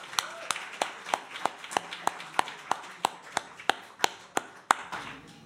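An audience claps together in a steady rhythm, with about fifteen sharp, evenly spaced claps over a faint background murmur.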